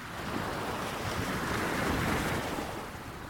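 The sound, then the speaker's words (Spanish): Steady ocean surf rolls and washes continuously, swelling slightly louder toward the middle before easing off, with a breezy, wind-blown hiss over the water and no voices. “Cualquiera que sea el caso, usted no podrá negar que el movimiento del mar es un fenómeno natural que provoca admiración, intriga y, en muchas ocasiones, angustia y miedo.”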